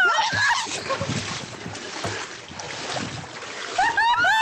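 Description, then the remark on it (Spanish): Churning water splashes as someone falls into a flooded ditch about one metre deep and thrashes about, with short shouted vocal outbursts at the start and again near the end. “¡Me caí en la zanja!”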